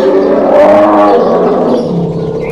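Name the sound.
bear roaring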